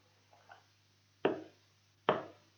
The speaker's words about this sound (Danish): To dæmpede bank, fuldt af to stærkere lød mod husets dør.